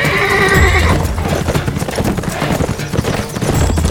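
A horse lets out a loud, shrill whinny, then hooves clatter in a quick, steady rhythm on hard ground, with no talking.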